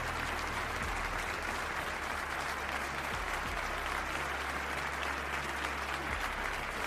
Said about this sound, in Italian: Un applauso signori, un applauso a tutti voi podcast ascoltatori.